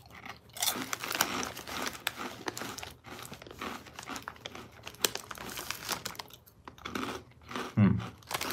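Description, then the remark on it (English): Loud crunching and chewing of crispy Cinnamon Toast Crunch Bugles corn snacks blasted with Cinnadust, with crinkly bites repeating steadily over several seconds and no talking. “Bugles, Cinnamon Toast Crunch, blasted with Cinnadust.”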